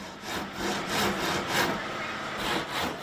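At the company Sanergy's workshop, a carpenter cuts wood with a handsaw to make toilet doors, in steady back-and-forth strokes, about two each second, with a coarse, raspy hiss that rises and falls with each pass. No one speaks.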